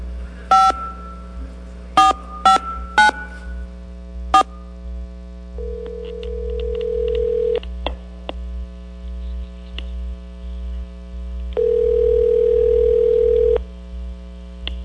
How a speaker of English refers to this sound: So I'm about to lift the receiver. Okay. And you can bring it up. I'm going to dial a number now. I'm just picking a station at random.